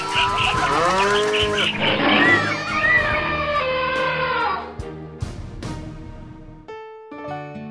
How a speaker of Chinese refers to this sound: 动物们蹦蹦跳跳地一拥而出，鸟啊、蝴蝶呀、蜜蜂啊，从头顶飞过。